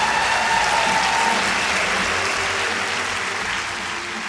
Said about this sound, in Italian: Eccoci, buonasera, fate un grande applauso a Julio Velasco.